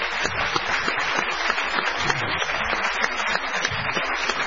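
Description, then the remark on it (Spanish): A crowd bursts into sustained applause for the Argentine conductor Jorge Gabriel Fontella, dense overlapping claps at a steady, fairly loud level for several seconds with no one speaking. “Les pido un aplauso también para un gran director argentino, que es el maestro Jorge Gabriel Fontella, que nos visita esta noche.”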